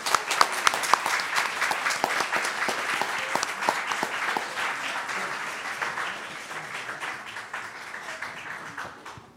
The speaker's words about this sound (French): On les applaudit.